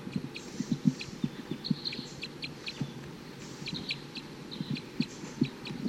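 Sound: wild bird chittering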